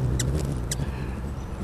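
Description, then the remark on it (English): A male hummingbird flying around inside a trap chirps twice, each a quick, thin, high-pitched squeak about half a second apart, over a steady low rumbling hum. “He's going to talk to us while he's flying around in there.”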